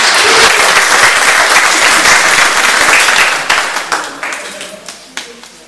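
A crowd breaks into warm, sustained applause for a woman about to give a reading of 1 Corinthians 13, many hands clapping densely for a few seconds before it thins out into scattered claps and fades away.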